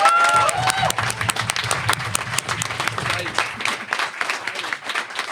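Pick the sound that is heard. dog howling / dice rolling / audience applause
audience applause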